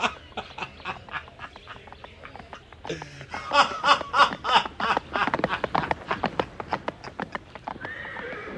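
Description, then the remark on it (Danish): Hooves clip-clop in a quick, steady rhythm as brothers ride off on horseback, with a horse whinnying partway through and the clatter continuing briskly before fading out. “Brødrene lå af ham og red af sted.”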